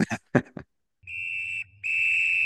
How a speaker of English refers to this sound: All right, well, there's the whistle for halftime, which means it's time for halftime adjustments.